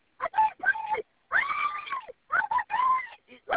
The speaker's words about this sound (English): you are breathing just fine because you are screaming at me. So calm down. I need you to calm down. I know that you are scared.